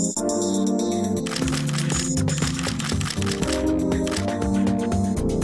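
A quick series of sharp, crisp camera shutter clicks, repeating over a steady, loud musical backdrop.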